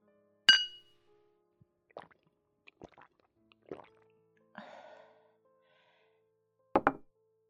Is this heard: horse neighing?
no